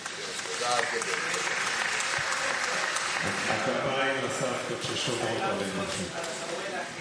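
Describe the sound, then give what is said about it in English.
A crowd applauds steadily, a dense wash of clapping hands that stays loud for several seconds, with a few voices calling out underneath, applauding the grandmothers who watch after the children. “The applause is for the grandmothers who watch after them.”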